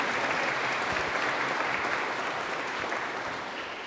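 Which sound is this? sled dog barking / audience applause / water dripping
audience applause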